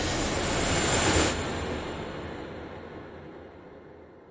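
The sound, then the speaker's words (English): A helicopter passes overhead, its roar swelling to a loud peak after about a second and then steadily fading, with no voices present. “I heard the helicopter, but I didn't hear it land, nor was I aware of how I got put into it and flown away and put onto an operating table.”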